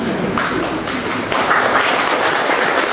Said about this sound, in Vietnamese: Những người đang hiện diện sống ở giáo điểm Tin Mừng này, vậy không nghĩa lại nói mời người khách vỗ tay chào người trên chủ nhà.